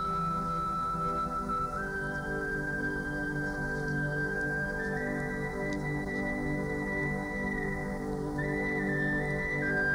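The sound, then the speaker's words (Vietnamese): A bamboo flute plays a slow, sad melody of long, held notes that step gradually higher, breathy and steady in volume, with no voices. “Tiếng sáo đượm buồn như tiếng than khóc của một cuộc tình duyên dở lỡ.”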